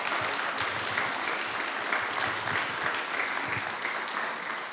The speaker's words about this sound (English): Let's give our board members a round of applause.